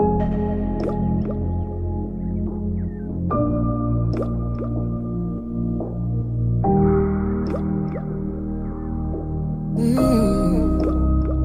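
A soft instrumental pop intro: sustained synth chords shift every few seconds, sprinkled with watery, drip-like plinks, building to a brighter swell near the end, with no singing or talking.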